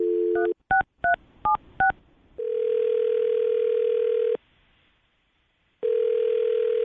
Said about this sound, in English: All right, well, I'm going to dial the phone number right now, and you can talk to your wife. Here we go.